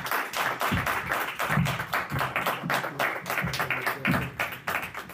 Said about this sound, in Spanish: Y nada, darle un aplauso al compañero y empezamos.